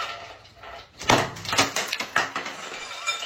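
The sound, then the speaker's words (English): A bucket of ice is hurled as hard as possible into a bathtub in a bathroom: a loud crashing clatter, then a series of sharp, rattling bursts as the cubes scatter and bounce against the hard tub. “She's throwing ice as hard as she can.”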